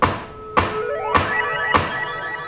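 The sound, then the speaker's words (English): A gavel bangs on a hard surface four times in an even, steady rhythm at an MTA open house. Each sharp knock leaves a hollow, ringing tone that fades before the next strike. No one speaks. “And so I'm banging my gavel on anything, and it just sounds terrible.”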